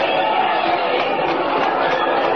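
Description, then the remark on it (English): A large outdoor crowd of thousands lining the curb roars in a steady, dense wash of voices, loud and continuous, with cheering and chatter blending together as a parade with a horse-drawn carriage passes through the streets of Metropolis. “Look at all those people. Listen to them cheer.”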